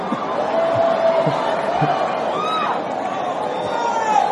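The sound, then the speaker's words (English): A woman screams and cries out over the steady roar of an audience, her high, wavering voice rising above the constant crowd noise and overlapping chatter. “I heard a lady screaming over here.”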